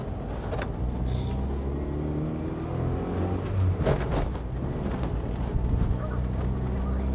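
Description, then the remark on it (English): A small, old Metro car's engine drones steadily from inside the cabin, with low rumbling road noise and occasional brief clicks and knocks over the constant hum; the car is shaky. “A car? It's because you're travelling in a metro, you're used to travelling in a Rover.”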